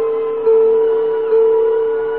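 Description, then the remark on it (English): Three mellow chime notes ring out in sequence, each struck tone sustaining and blending into the next as a steady, mid-pitched hum, with no voices present. “Three bells for three great shows.”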